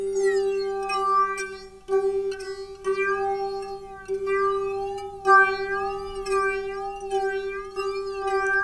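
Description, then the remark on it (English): A self-oscillating synth resonance sings in steady, whistly tones with strong harmonics, its pitch bending and swooping in meow-like glides, broken by brief gaps. No one speaks over it. “I can pitch shift the resonance. Tuned it to itself.”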